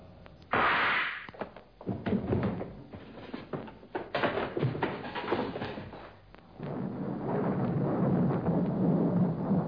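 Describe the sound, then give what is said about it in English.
A sudden loud crack of thunder, followed by several seconds of rolling, crackling rumbles that settle into a steady, heavy roar like a downpour. No voices are heard. “And suddenly, there was a sound of thunder.”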